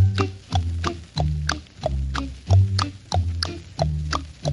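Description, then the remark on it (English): A steady, trotting clip-clop of horse hooves from a horse-drawn coach, about three beats per second, sounds over a bouncy, plucked low instrumental accompaniment in a French song, with no voices. “Boy and a girl are riding along in a horse-drawn coach in this little French song.”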